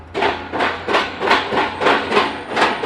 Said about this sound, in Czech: My se díváme na pilotovací soupravu, která vrtá hlubinný vrt do hloubky zhruba minus 10 metrů od naší pilotovací pláně.